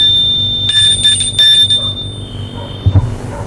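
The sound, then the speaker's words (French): A doorbell at the front door of a house rings with a shrill, high electric buzz in several quick bursts, its steady tone lingering for a few seconds before cutting off, followed by a soft low thud. “Arrivé devant la porte d'entrée, il sonne.”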